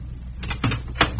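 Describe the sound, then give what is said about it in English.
A house's front door being opened late at night, almost 11 o'clock: a few short clunks and rattles of the latch and handle, ending in a louder knock-like thud. No voices. “I could hear voices behind the door. I rang the bell.”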